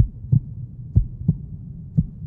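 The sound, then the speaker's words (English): Low, muffled thumps pulse at a steady heartbeat-like rhythm, four soft beats close together over a faint low hum, with no voices. “I don't know if I can hear my heartbeat or if someone's breaking into my house.”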